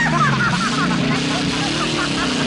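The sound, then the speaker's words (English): A car engine roars loudly for a few seconds as flames shoot out of the car's exhaust, its revving pitch wavering and climbing steadily, with a rough, throaty exhaust note throughout. “Flames shoot out of Leo's car's exhaust.”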